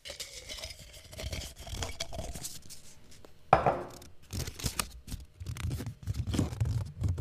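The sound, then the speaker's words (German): Dry rustling and crinkling of question slips being stirred inside a glass jar to draw a question, with scattered sharp taps and a louder clink midway, continuing in uneven bursts with no talking. “Dafür können wir rascheln mal nochmal im Glas.”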